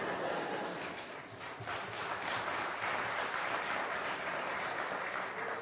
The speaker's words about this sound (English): Come on, let's hear that lady. Come on, she deserves a big clap.